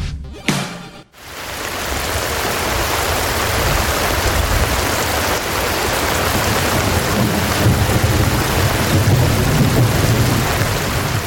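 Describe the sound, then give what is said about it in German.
Steady, heavy rain pours down in a dense, continuous hiss, with low rumbling underneath, starting after a brief sharp transient and holding loud throughout. “Das war natürlich ein Sound von Regen.”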